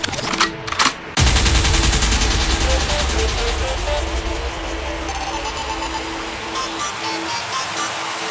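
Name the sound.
DJ gunshot sound effect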